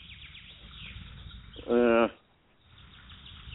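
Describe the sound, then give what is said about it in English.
A played recording of a bird call: one loud, brief, harsh tonal squawk lasting about half a second rings out over a low, muffled background rumble, then drops to near quiet. “I can't find the right bird sound.”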